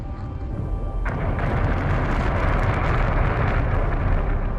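Deep, dense rumbling of explosions across a neighborhood rolls on without pause, building sharply after the first second into a loud, sustained roar with crackling debris on top. No voices.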